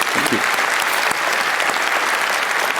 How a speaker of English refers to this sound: It's a team effort. This includes the Bits and Bäume crew, of course, our colleagues, incredible activists, many individual researchers, and of course the angels here, the content team and the VOC. So applause for them.